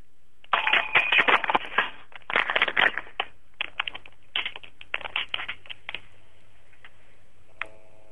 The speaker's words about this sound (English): I'll rattle the phone around a bit.